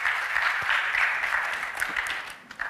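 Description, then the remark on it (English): A church crowd claps steadily for a panel of deacons on stage one morning, a dense, continuous wash of overlapping hand claps, holding at an even level before tapering slightly at the end. “So, hey, round of applause for the panel this morning.”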